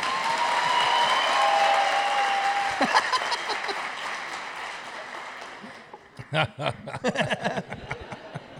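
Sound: audience clapping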